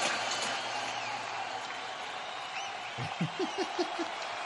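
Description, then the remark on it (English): A crowd sound effect: a steady, dense roar of cheering with a few high whistles on top, and a quick run of short, rhythmic laugh-like bursts near the end. “So that should be a crowd sound.”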